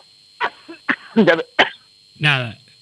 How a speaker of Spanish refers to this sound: Creo que nos va a acompañar la tos hasta el final del programa.